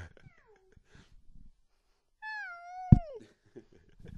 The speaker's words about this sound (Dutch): Poes wordt heel speels. En nu komt er een speeltje bij. Het begint echt heel wild te spelen. Nou ja, zoals je dat bij een kat kan voorstellen, een jonge kat.